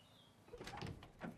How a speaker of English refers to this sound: Moments later, Leo slowly opens the door to the red-walled bedroom.